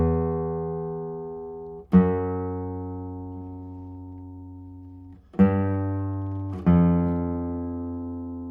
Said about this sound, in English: Very strong and long ringing basses. And as I already said or expected, the guitar is responding very, very well. And it's also because of the Cypress back and sides. Cypress is a very lightweight wood,